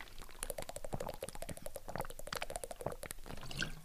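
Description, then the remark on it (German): Wet gulping and slurping as someone drinks a beverage, a steady run of quick liquid clicks and bubbly swallows lasting a few seconds, with no talking. “Irgendjemand hat mir letztens gesagt, es nervt, wenn ich trinke.”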